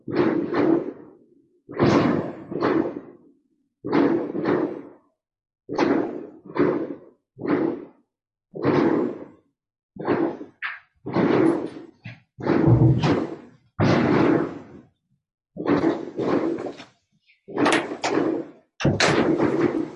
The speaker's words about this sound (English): My husband tells me they're fireworks. So here we have fireworks.